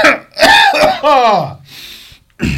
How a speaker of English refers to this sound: I apologize. That cough just ruined my laugh. I apologize. It stole the laugh from me.